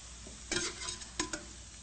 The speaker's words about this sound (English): So, and that's why frying foods in oil became a traditional food.